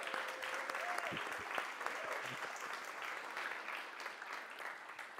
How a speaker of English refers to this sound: Can y'all join me one more time in giving a big round of applause to our students for leading us in worship this morning?